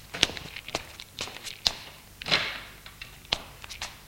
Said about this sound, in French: Descend les escaliers. Bas, ouvre une porte.